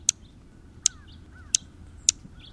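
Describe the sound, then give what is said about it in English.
Four sharp, high-pitched chip notes from a dark-eyed junco, evenly spaced about a second apart, each clicky and brief, over a soft, steady low background hiss. “In the northern states, from the east coast to the west, the dark-eyed junco is one of the most common feeder birds.”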